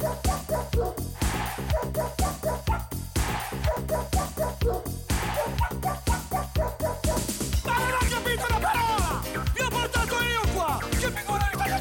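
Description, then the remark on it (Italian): A dog barks rapidly and repeatedly, loud and insistent throughout, with the barks turning into higher-pitched yips and whines toward the end. “Il cane, the dog, noi siamo amici, vero?”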